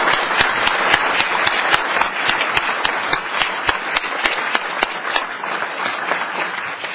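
A church audience applauds steadily for about seven seconds, a dense patter of many hands clapping at an even, sustained loudness with no voices standing out.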